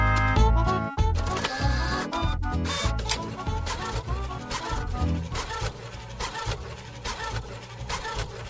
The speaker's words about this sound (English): Paper coming out of the printer.